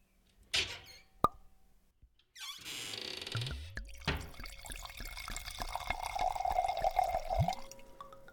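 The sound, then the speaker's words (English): Wine glugs steadily into a glass after a couple of sharp glassy clinks, the liquid's gurgle rising in pitch as the glass fills, then stopping with a soft final drip. “I'll pour us some wine.”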